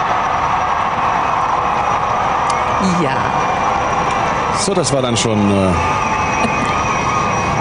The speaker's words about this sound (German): Jetzt kommen schon die Flugzeuge. So, das sind die Flugzeuge, die wir jetzt sehen.